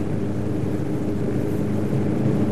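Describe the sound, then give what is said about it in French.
A steady, loud car engine drone with road rumble, heard from inside a car driven at about 107 km/h with the accelerator nearly floored, then slowed to 80 km/h and downshifted through a bend, near Porticcio. The low roar holds constant throughout with no voices. “Je redescends la vitesse légèrement. 80, je rétrograde. Virage pris à 80, puis troisième.”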